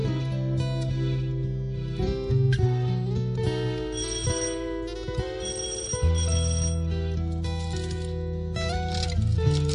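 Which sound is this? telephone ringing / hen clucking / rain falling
telephone ringing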